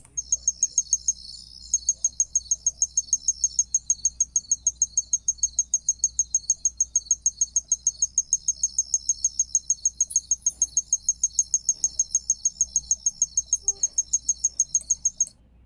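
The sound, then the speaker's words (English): A tinkling ground cricket chirps in a steady, rapid series of bright, high, bell-like pulses, evenly spaced and continuous throughout, over a faint low rumble with no voices. “That's called a tinkling ground cricket. And you could hear it's a little bit musical.”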